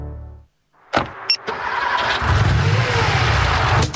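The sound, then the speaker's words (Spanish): A car engine cranks to life after a couple of sharp clicks, then runs with a loud, steady rumble that swells slightly as it's revved. A brief musical tone fades out just before. “Todo va perfecto, porque tu auto está protegido.”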